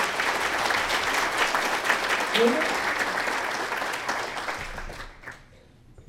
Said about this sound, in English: Let's have a big round of applause for them today.